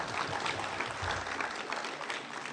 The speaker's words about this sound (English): And for that, you should all be applauded. In fact, let's give TMR and the Citizens League a big round of applause.